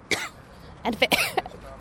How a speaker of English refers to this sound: And maybe it's just allergies, quite frankly. Whatever it is, this feels normal again. Walking around, trying not to cough.